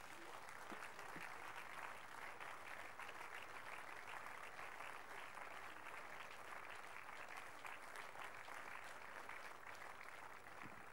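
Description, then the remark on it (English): A standing church audience claps steadily in praise of the Lord, sustained, dense applause, loud and even throughout the nearly eleven seconds, with a faint murmur of voices beneath the clapping. “Shall we please rise onto our feet this morning and give the Lord the biggest clap of praise?”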